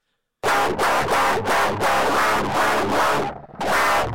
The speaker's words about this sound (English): I have like a classic guitar, but I detuned it as far as I possibly could and ran it through the most disgusting distortion I possibly can. Mm. Here's what I think djent sounds like.